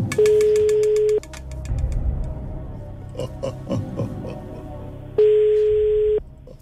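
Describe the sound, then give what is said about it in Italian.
Two long, steady electronic ring tones of a phone line ringing, each about a second, separated by a pause filled with faint rustling and clicks, loud. “Ecco, squilla.”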